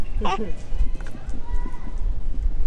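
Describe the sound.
A rolling suitcase pulled along pavement, its wheels knocking out a steady run of dull, low thuds over a continuous rumble, with a brief voice sound near the start.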